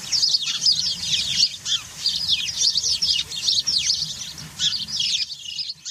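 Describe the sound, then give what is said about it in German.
House sparrows chirp continuously in a busy, overlapping chorus, many quick high tweets packed together, lively, with a faint low rumble underneath and no talking. “Zum Abschluss hören Sie noch einmal das wilde Gezwitscher der Haussperlinge.”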